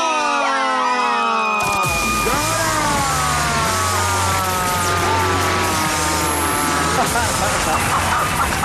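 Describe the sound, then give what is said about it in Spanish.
Several voices shout loudly together in unison, a dense, sustained chorus of yelling that fills the whole stretch, with a low steady hum running underneath. “Gritaron al tiempo y en coro.”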